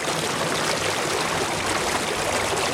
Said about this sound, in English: Especially in Ollantaytambo. Here, water from the river of the same name rushes through town in stone-lined irrigation canals.